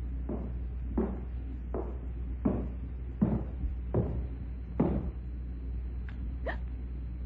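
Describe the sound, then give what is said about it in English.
Footsteps walk at a steady, unhurried pace, about eight muffled thuds over a low constant hum, followed by a couple of brief higher-pitched scrapes at the end. “Footsteps.”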